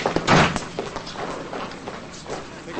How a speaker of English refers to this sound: Now, in a hospital corridor, Jesse rushes through a door as Beth approaches. She's in a coma. They rush through the doors and down another hallway.